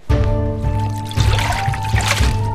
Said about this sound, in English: So she hurried to get water for Eliezer and his camels. Camels need a lot of water. So Rivka kept on filling the pail with water again and again and again.